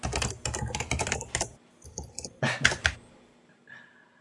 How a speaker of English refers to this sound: Here's a quick soundbite. We're hearing the keyboard typing, and it sounds good. It sounds like you know what you're doing there.